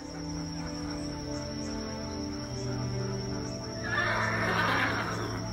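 A horse neighs loudly, a long whinny with shaky, quavering tones that swells and brightens toward the end, over a steady background hum and a thin high insect-like whine.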